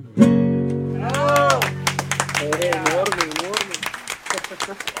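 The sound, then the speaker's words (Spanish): A crowd bursts into applause after a song ends on a sustained, held tone. Many hands clap in a dense, steady patter that lasts several seconds, with voices shouting and cheering over it. “Aplausos de multitudes.”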